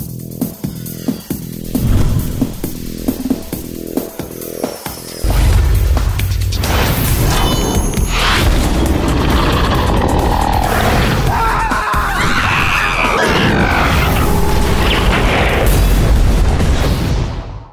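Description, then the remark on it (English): In a game animation for Perforos, a run of sharp, evenly spaced slamming hits, then a hammer slams back into a volcano and a massive explosion boom erupts as lava comes out, becoming a loud, sustained roaring rumble with crackling debris lasting until the end. “Just slams boom. The hammer back in the volcano and it goes boom and all the lava comes out.”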